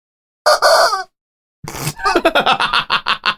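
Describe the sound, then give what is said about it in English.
A rubber chicken toy squawks loudly: one long strained honk, a short pause, then a quick run of sharp, pulsing squeaks with no one talking. “And I'll just have a little rubber chicken sticking out of my corner pocket.”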